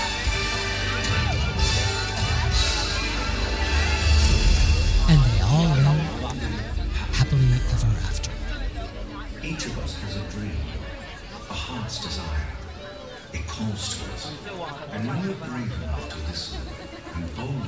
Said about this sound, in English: So loud. The crowd noise is so fucking loud there that you can't really hear anything.